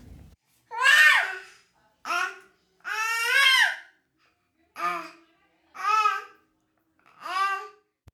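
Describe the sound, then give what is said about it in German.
A baby, just woken up and unhappy, babbles and whimpers downstairs in a string of six short, high-pitched bursts separated by brief pauses, fairly loud, with some fussy, cry-like wails mixed in. “Ich höre es nämlich von unten weinen.”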